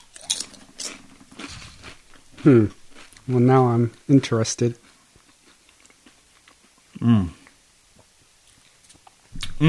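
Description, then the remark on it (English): Crisp, crackly crunching of someone biting into a corn chip with a little sauce on it while taste-testing the sauce, a quick cluster of bites followed by a few softer chews, with a voice speaking briefly in between. “So, did you ever think that you were going to be sending out the sound of you crunching over the waves, the internet waves and the podcast waves for everybody to hear you”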